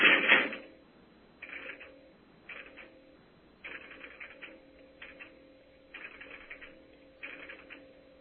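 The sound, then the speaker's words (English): Bursts of rapid mechanical clattering from the marker of crossbar switch equipment, operating as a number is dialed, come in short repeated groups over a steady low electrical tone, heard over the radio and sounding thin, with no voices. “I will dial the number, and then you may hear some clatters of the marker operating, and then there will be some MF tones coming over that hopefully will make it over the radio.”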